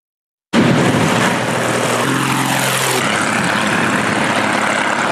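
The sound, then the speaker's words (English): A small propeller medical plane landing at Gawa Airport in Toba province, Vanuatu; its engine roars loud and steady with a droning buzz and shifting tonal hum, starting abruptly after a brief silence and continuing without any talking. “The Wings of Hope medical plane landed at Gawa Airport to a warm ceremony, 2 years after it was badly damaged by Cyclone Trudy and Kevin in 2023.”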